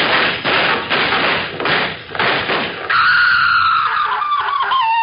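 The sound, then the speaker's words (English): A rapid volley of sharp, booming gunshots, five or so loud cracks over roughly three seconds, followed by a high, wavering cry that trails off. No one speaks. “Sound a little like shots to me.”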